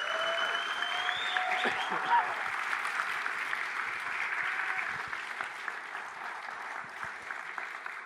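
An audience breaks into sustained applause, a dense, steady wash of clapping that holds at an even loudness for several seconds, with a few faint tonal cries or whistles early on.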